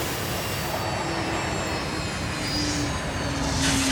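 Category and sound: vehicle, train arriving and stopping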